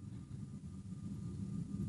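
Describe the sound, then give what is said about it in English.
A steady, low roaring rumble of a jet aircraft, Air Force Two, taking off over the building, fairly muffled, holding constant for the whole two seconds with no voices. “It sounds like Air Force Two just took off over the building.”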